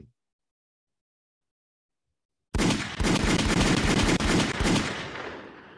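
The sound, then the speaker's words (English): Silence, then a loud, rapid burst of gunshots outside, firing in quick succession for about three seconds, sharp repeated cracks running together like automatic fire, with no voices. “We had gunshots like that had to get off real quick.”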